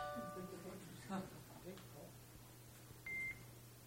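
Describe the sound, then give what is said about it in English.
A phone gives off electronic tones as it is switched off: a chiming multi-tone sound at the start, a soft click, then a short high-pitched beep near the end over a low hum. “How do I shut this thing down?”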